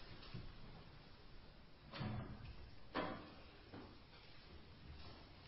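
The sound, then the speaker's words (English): A door is opened with a few short clunks and a scraping rattle spread over a couple of seconds, against a quiet, slightly noisy background with no talking. “Could someone open the door and keep it open at this point?”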